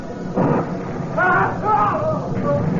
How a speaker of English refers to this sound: The sea got kind of choppy that night, and I was sure restless. Wind started acting up, and began to rain. Looked like a storm was building.